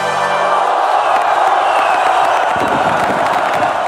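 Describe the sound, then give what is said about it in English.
A crowd-cheering sound effect: a loud crowd cheers and whoops continuously, a dense roar of many voices with scattered claps underneath, steady throughout. “Maybe I'll put some sound effects under that or something.”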